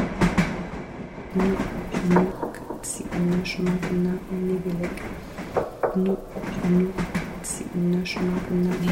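train rolling on rails

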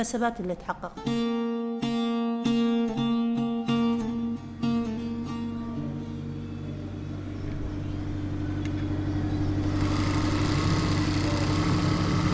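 sewing machine running

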